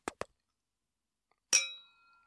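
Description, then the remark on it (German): Two quick light taps at the start, then a bright glass clink rings out clearly and fades with a shimmering tail as glasses of drinks touch in a toast to love. No one speaks. “Nee, wir machen erstmal einen kleinen Drink. Brauchen wir. Worauf trinken wir denn? Auf die Liebe.”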